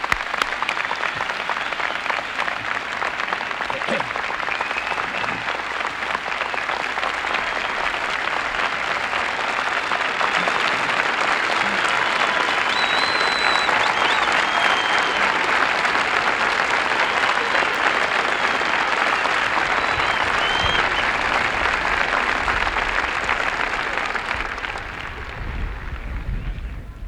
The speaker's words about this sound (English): He deserves our rigorous applause and a sincere thank you from all of us.